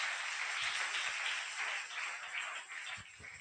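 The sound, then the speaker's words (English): An audience claps together in praise to the Lord, a dense, steady wash of many hands that keeps going at an even loudness for the whole stretch, with no voices over it. “Clap unto the Lord.”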